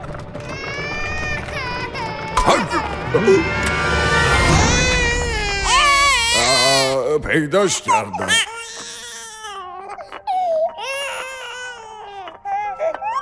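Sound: baby crying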